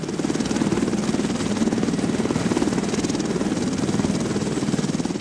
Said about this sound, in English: The EC-130 helicopter has been named Spirit of Mercy and is available 24/7.